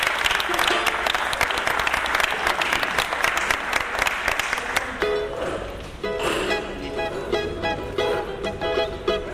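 A crowd at a samba session gives a loud, dense round of applause for a performer about to start singing, clapping steadily for about five seconds before thinning out as sustained tonal sounds rise over the fading claps.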